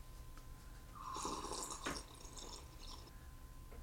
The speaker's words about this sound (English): How come you didn't edit out the slurping of the drink at the end? Because it was intentional.